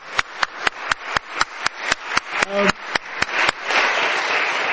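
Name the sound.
applause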